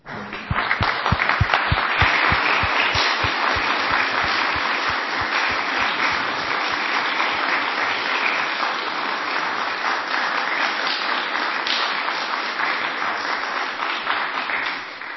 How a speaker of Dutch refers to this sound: Ik denk dat we nog wel één keer een klein applaus voor ze kunnen geven.